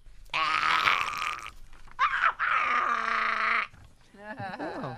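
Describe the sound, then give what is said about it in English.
A human voice imitates a beluga whale, producing several bursts of strained, buzzy, high-pitched squeals and warbles, ending in wavering chirps that swoop up and down in pitch. “Is that what a beluga whale sounds like?”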